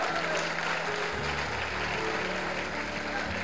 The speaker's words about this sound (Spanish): Dale ese aplauso al Señor, amén.